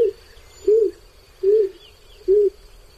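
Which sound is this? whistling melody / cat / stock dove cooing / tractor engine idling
stock dove cooing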